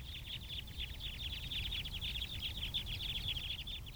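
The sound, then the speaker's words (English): A rapid, continuous stream of sharp, high chip notes from a flock of crossbills calling in flight overhead at Fayetteville Country Club, Arkansas, on a windy day in December 2012, overlapping and steady throughout, over a low rumble of wind. “Here's a flock overhead. I recorded this at Fayetteville Country Club on a windy day in December 2012.”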